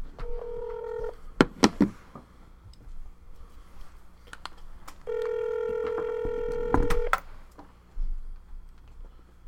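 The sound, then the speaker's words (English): A phone line rings out as a phone call is placed to a guest: a short steady electronic ring, a few sharp clicks and tones as the number is dialed, then a longer two-second ring tone, with faint clicks afterward. “So, yeah, I want to call him up.”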